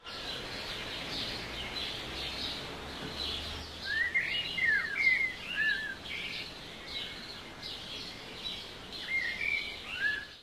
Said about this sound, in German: Und die Vögel, haben die schon den ganzen Morgen so fröhlich gesungen?